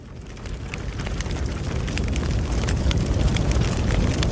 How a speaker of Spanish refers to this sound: El crepitar del fuego nos anuncia la llegada